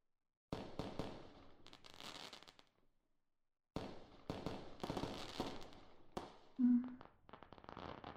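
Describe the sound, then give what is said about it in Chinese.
A rapid barrage of wedding fireworks outside a window, crackling and popping, dense bursts for a few seconds, a brief pause, then another long volley of sharp cracks with a short tonal whistle near the end. “这个烟花是你姐姐结婚的烟花吧？”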